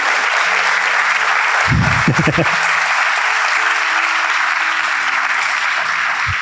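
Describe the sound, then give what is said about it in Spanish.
An audience claps steadily for several seconds, a dense, fairly loud wash of applause that holds its level throughout, with a brief low murmur of a voice partway through. “Pensé que iban a aplaudir, pero bueno, no importa.”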